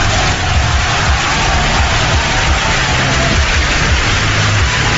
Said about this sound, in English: That can't be fake applause. Oh my God.